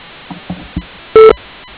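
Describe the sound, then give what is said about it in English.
A single loud voicemail beep on the OmTech International answering line, a steady electronic tone lasting about a fifth of a second, preceded by a few faint, soft blips and followed by quiet line hiss. “Please leave a message at the tone and we'll get back to you as soon as possible.”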